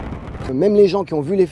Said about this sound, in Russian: Жители и гости Женевы снова смогли насладиться грандиозным фейерверком. Его каждый год проводят в конце летнего фестиваля, включающего концерты, ярмарки и аттракционы.